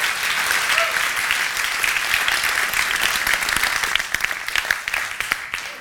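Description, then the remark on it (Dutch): A crowd applauds steadily and fairly loudly to welcome the evening's speaker, a dense wash of many hands clapping that thins slightly toward the end as individual claps become more distinct. “Dus een warm applaus voor Marjan Minnesma.”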